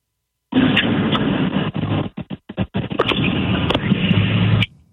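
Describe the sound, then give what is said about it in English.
A harsh, loud crunching and rumbling noise like a car crash, heard through a muffled telephone line, runs for several seconds with choppy dropouts in the middle and no voices. “I hope that car just crashed. Like, I hope we just heard the accident.”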